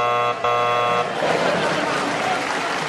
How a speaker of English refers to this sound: Oh, and that noise tells me the old clock on the wall says time's up, and the winners are...